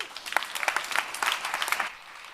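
An audience claps for about two seconds to welcome a team presenting their project on Deutsche Bahn train delays. It is a dense patter of many hands at a steady level that tapers off abruptly, with no voices over it.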